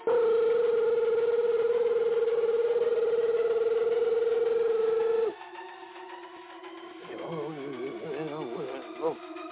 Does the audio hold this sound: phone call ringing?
yes